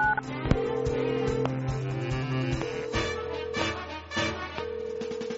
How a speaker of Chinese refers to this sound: 阿旺马上拿起了手机拨打119。